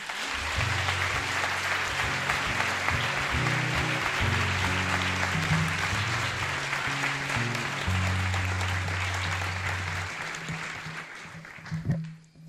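An audience claps loudly and steadily for about eleven seconds over a low musical backing as a guest speaker on hypnosis is introduced, and the applause then dies away quickly.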